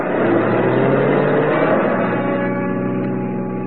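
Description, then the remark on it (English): A car engine hums loudly and steadily as the car pulls back onto the road and picks up speed, a continuous mid-pitched drone with no voices. “After I got the car back onto the road again, I felt like a fool.”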